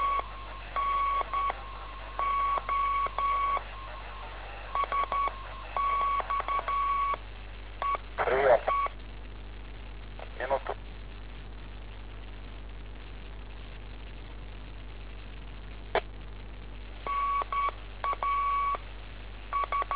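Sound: telephone dialing beeps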